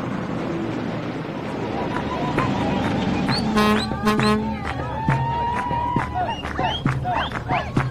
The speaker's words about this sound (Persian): اتوبوس در تاریکی به راهش ادامه میدهد.